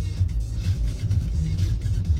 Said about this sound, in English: And now here we are, driving past this food truck.